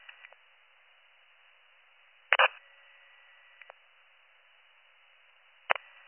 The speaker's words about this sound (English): Your radio static.